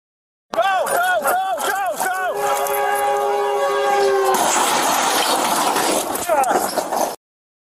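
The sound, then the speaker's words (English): Loud train horn blasts, then a long sustained horn note that gives way to a harsh grinding crash as an oncoming train slams into a small aircraft that made an emergency landing on railroad tracks at San Fernando Road and Osborne Street in Los Angeles, with shouting voices at the start. “some heroes in action of the LAPD saving the life of a pilot who made an emergency landing on the railroad tracks at San Fernando Road and Osborne Street in LA right before an oncoming train collided with the aircraft.”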